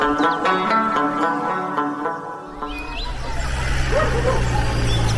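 A dog barks and yips in a quick series of sharp, fairly close calls, then the barking gives way to a steady rumble of passing traffic and background noise.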